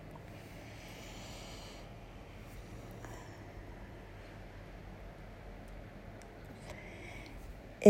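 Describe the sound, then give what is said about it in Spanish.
A slow, deep breath drawn in and released, soft and airy over a faint steady hiss, with no one speaking. “Y comenzamos con una respiración profunda que nos trae aquí.”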